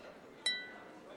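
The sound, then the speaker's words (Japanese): A single bright glass clink rings out sharply as glasses of screwdriver cocktails are raised in a toast, its high metallic tone lingering and fading over a low murmur of background noise. “ほら、私たちの出会いに乾杯。”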